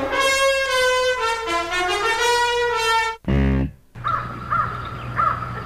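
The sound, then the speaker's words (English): A crow caws loudly and harshly several times in quick succession, followed by a brief low rasp and a few softer calls over steady outdoor background noise. “Again, a crow.”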